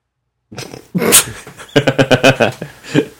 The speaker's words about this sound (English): I'm doing that I'm tired breathing. I always do that. I can't breathe through my nose.